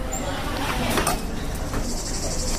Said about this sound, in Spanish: Chicharra de fondo